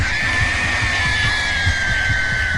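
A woman being held down in a chair on a ward screams and wails in one long, piercing cry that sags slowly in pitch, with a steady low rhythmic pulsing underneath throughout.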